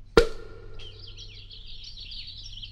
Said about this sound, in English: Listen to that. These nightingale's tongues aren't well-seasoned at all. They're still chirping. I'd better put them back to age a few hundred years longer.